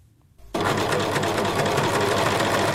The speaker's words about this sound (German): in ihrem Element, an der Nähmaschine.